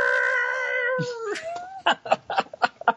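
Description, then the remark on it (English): A voice imitates Godzilla's classic roar: a long, screechy wail for nearly two seconds that slides downward in pitch, followed by a run of short, rhythmic bursts of laughter. “Then you cut to black and you hear the classic Godzilla roar.”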